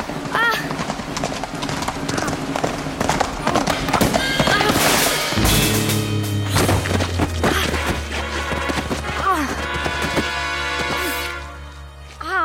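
Rapid hoofbeats clatter in a steady galloping rhythm as a horse is ridden with a lance at an opponent in a joust, whinnying loudly several times, with a brief crashing thud midway and a low rumbling drone underneath.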